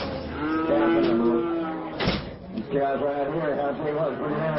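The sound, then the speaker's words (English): A large black cow moos loudly as it is sent into the bidding ring at a livestock auction about an hour south of Austin, a long drawn-out low call, followed by a brief noisy burst and murmuring voices of a crowd in the background. “At the Luling Livestock Auction, about an hour south of Austin, a large black cow is sent into the bidding ring.”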